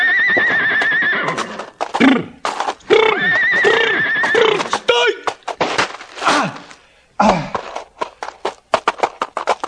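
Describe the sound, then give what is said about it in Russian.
A horse whinnies loudly several times in shrill, wavering bursts, followed by a flurry of hoof clatter and scuffling as it bolts away, fading into scattered thuds. “Быстро догнать убежавшую лошадь!”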